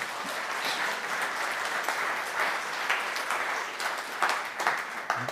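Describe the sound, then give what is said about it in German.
Steady audience applause for the team that makes the monthly 'Aktuell' booklet, a dense crackle of many hands clapping at an even, sustained level throughout, with no one speaking over it. “ein kleiner Applaus für dieses Aktuell-Team an dieser Stelle ist angezeigt.”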